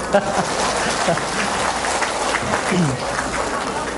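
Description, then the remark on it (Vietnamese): A crowd claps steadily in a dense, continuous round of applause at a Buddhist dharma talk in Vancouver, with some voices mixed in beneath the clapping throughout. “Và vừa rồi thì Pháp Hòa nghĩ rằng chắc bấy lâu nay quý vị cũng đã được nghe thầy giảng, thầy hát, thầy ca, thành thử tối nay Pháp Hòa miễn chị em chịu thiện tràng pháo tay.”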